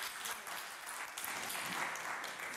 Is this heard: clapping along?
yes